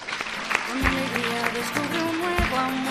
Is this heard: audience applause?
yes